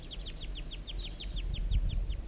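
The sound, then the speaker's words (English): A juvenile wild bird in a Table Mountain pine gives a rapid, steady series of thin, high-pitched chirps, about six per second, over a low rumbling background with no voices. “These are the vocalizations of the juvenile.”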